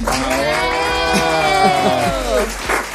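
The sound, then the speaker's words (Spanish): Loud, steady applause from a crowd, with a long, sustained cheering voice ringing out over the clapping for the full three seconds. “Un aplauso para todos los que se quedan en sus regiones.”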